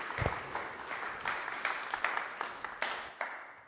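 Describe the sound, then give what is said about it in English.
A church crowd applauds a pastor of Heartland Community Church steadily, a dense wash of many hands clapping with scattered sharper claps standing out in a loose rhythm, fairly quiet overall and without any voices. “Will you give him a hand clap?”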